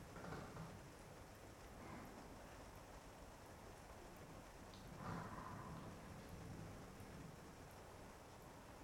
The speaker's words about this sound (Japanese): 冷たい雨が降る秋の夜、ご主人様のお隣はとても暖かくて心が落ち着く寝床です。